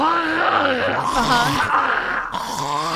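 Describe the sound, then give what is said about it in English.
A voice imitates an old man clearing his throat: a loud, rough, gravelly run of groaning, growly rasps and hacks lasting a few seconds, with wavering pitch and no words. “I can hear him clearing his throat now.”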